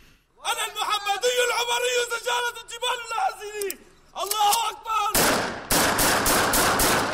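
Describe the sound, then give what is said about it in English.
Loud, raised voices fill the first five seconds, then harsh bursts of machine gun fire take over, rattling in rapid, roughly evenly spaced volleys until the end, during fighting in the town of Jisr al-Shagur. “So the context of this is, here is the fighting in this town, Jisr al-Shagur, and here is an opposition soldier with your embedded journalist who is saying, I'm a descendant of Muhammad and Umar.”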